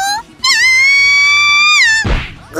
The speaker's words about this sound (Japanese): ごめんなさい、叩いておいてなんだけど。アイドルが出しちゃいけない悲鳴だったわね